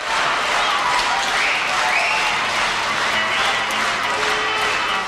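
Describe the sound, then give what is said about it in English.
Loud, dense applause from a large concert audience at a 1966 concert recorded in Manchester, following the final song of the show. It fills the whole stretch, a steady roar of clapping with some cheering and crowd voices mixed in. “Je vous fais écouter les applaudissements.”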